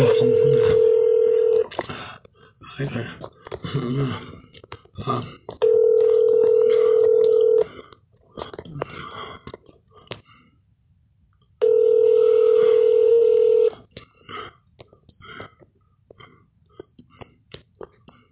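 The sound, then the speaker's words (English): A telephone ringback tone sounds three times in steady, evenly spaced bursts over a phone line as a call to the California State Auditor's Office is transferred, with faint line noise and muffled background sound between the rings. “If you know the extension of the person you wish to reach, please hold while I transfer your call.”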